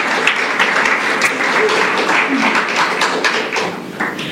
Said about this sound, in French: Allez, je vous applaudis.